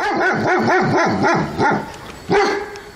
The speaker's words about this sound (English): Here's the bark of a big German Shepherd.